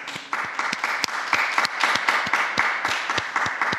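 A large crowd applauds the new blesseds, dense overlapping clapping sustained throughout at a fairly loud, even level, with a few sharper individual claps standing out and no talking.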